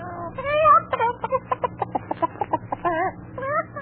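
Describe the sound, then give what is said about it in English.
A voice imitates a hen clucking as the character Madam Clara Cluck, with squawky warbled notes breaking into a quick run of choppy clucks, loud over a low steady background hum. “Here comes Madam Clara Cluck.”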